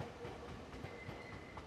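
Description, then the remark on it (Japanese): A train arrives at platform 3 of a station with a steady, rumbling mechanical roar and faint rhythmic rattling, a thin high tone running through it, fairly loud with no voices. “3番線電車が到着します。黄色い線までお下がりください。”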